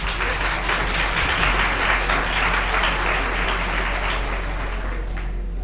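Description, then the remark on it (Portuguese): An audience at a literature and reading talk event applauds steadily for several seconds to welcome writer and journalist André Tchabordai, a dense, even wash of many hands clapping at a fairly loud level, with no speech over it, fading slightly at the very end. “Uma salva de palmas.”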